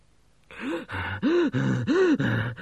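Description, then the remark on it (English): A voice imitates heavy, out-of-breath panting after running: about six quick, loud, voiced breaths in a steady rhythm, with no talking. “Gerda leant against the wall and panted like a hot dog on a sunny day.”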